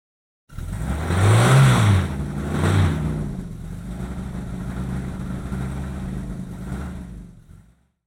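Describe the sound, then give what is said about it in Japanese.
A taxi engine revs up twice in quick succession, its low hum rising and falling, then settles into a steady, rumbling idle before cutting off. No one speaks. “これはタクシーです。”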